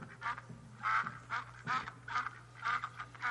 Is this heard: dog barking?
no